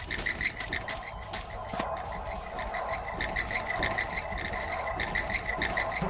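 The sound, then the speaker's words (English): A video game frog croaks in rapid, bubbly, rattling bursts that repeat steadily over a constant background hum, fairly loud, with no one talking. “Useless frog. He leaves me with the bats.”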